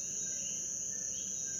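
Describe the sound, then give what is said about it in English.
A short-tailed cricket, recorded in Puerto Rico, calls with a steady, piercing high-pitched trill that holds unbroken throughout, sounding continuous over a low background hum of night ambience. “This is the call of the short-tailed cricket, which Isaul says sounds like a drilling beep that's going to melt your brain.”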